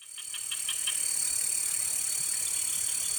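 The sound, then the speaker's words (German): A dense chorus of crickets and cicadas in a rainforest, with a steady, shrill high-pitched drone. Quick pulsed chirps stand out at first, then the buzzing stays loud and constant. No voices. “Ein Haufen Grillen, Zikaden. Zirpen.”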